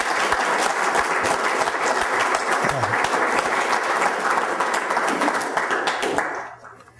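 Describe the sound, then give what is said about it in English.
Steady, dense applause from an audience welcoming a guest speaker, many hands clapping at a constant loud level for about six seconds before quickly tapering off. “We give a round of applause to him.”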